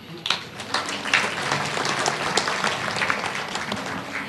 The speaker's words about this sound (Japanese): 今一度大きな拍手をお送りくださいませ。